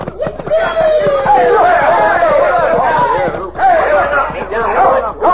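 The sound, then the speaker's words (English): A dense, loud crowd commotion in a street, many overlapping voices shouting and yelling at once as the crowd is tipped over and tangled in the mud by a rope Little Beaver trailed between two horses; a continuous chaotic din that swells and dips briefly before surging again. “Look at the crowd, all tangled up in the mud.”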